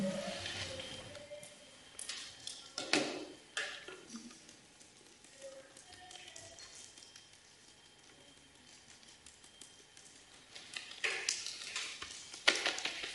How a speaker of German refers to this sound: ist immer so ein bisschen klopfen ganz gut. Die Handflächen bieten sich an. Die Handrücken bieten sich an. Und da würde ich sagen, das machen wir mal ein Minütchen.